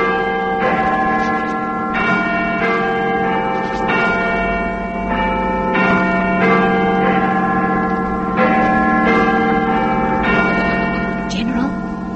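signal or alarm, clock striking the hour

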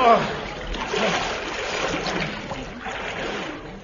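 sound effect, splash into deep water

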